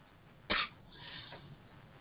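A woman coughs once sharply, followed by a softer, raspy second cough trailing off, with no talking.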